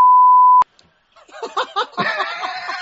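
A single loud, steady high-pitched beep lasts about half a second and cuts off abruptly; after a short pause, several people burst into laughter.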